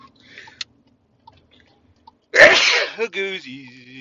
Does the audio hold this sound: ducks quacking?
no